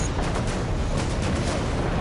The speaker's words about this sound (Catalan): Desde este lugar podemos sentir cómo las explosiones casi están moviendo este hotel.